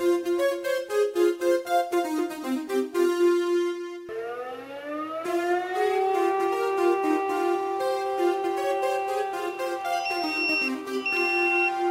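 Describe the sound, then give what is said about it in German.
An alarm siren of the Freiwillige Feuerwehr Diemelsee, a volunteer fire brigade: a few seconds of pulsing, rhythmic alert tones, then a loud siren that rises in pitch and holds a steady, sustained wail. No one speaks. “Alarm für die Freiwillige Feuerwehr Diemelsee.”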